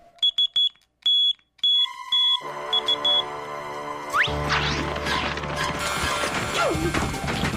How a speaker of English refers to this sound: We're using Morse code, where every letter of the alphabet is translated into dots for short sounds and dashes for long sounds. If I needed help, I would just tap out the international distress signal. S-O-S.